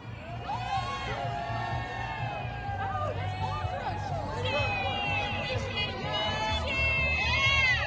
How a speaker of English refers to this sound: All right, you got a group of patriots here cheering on for these ICE officers, mixed in with the activists.